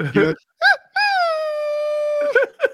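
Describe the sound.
A voice imitates a humpback whale's wail: one long, steady, slightly sliding moan held for over a second, loud, with short vocal bursts just before and after.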